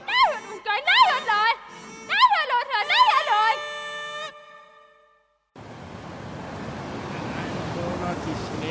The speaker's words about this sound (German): dann tobt natürlich das Wasser hier unglaublich runter.